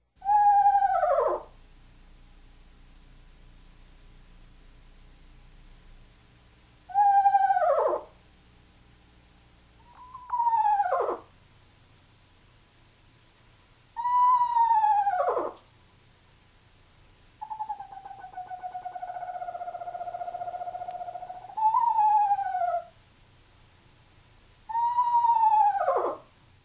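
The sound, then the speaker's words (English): An eastern screech owl gives a series of eerie, descending whinnying whistles, each separated by a few seconds of quiet, with one longer steady-pitched trill in between; clear. “Listen again to the rather eerie song of the eastern screech owl.”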